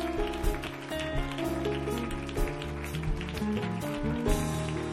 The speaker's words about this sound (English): Let's clap our hands and lift up the name of the Lord.